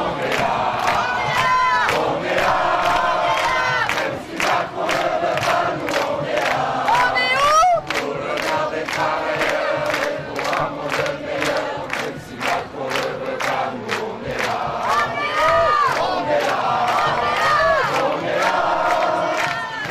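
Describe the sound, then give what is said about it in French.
A large crowd of marchers in a procession through a housing estate shouts and cheers joyfully in reply to a resident waving a yellow vest from a window. Many voices overlap in a loud, continuous roar with rising whoops and calls throughout, energetic for the whole stretch. “La foule lui répond par des cris de joie.”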